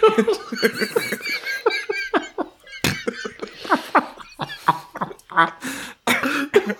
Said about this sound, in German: Übrigens, mein Husten ist immer noch nicht weg. Ich sterbe langsam.